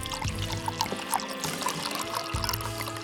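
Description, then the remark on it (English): Cheap red wine pours steadily from a decanter into a glass for about three seconds, a continuous gurgling trickle with small bright splashes and no voices. “He decanted the cheap wine and winced as he poured some into Christophe's glass.”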